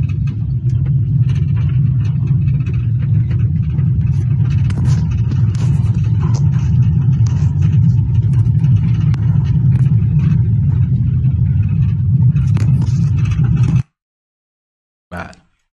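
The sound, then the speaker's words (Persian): Heavy truck engines rumble steadily and loudly for about fourteen seconds during a truckers' strike in Dehaghan, Isfahan, a deep continuous drone, then cut off abruptly, followed by a brief final burst of rumble. “درود دوستان، اعتصاب کامیونداران رو میبینید.”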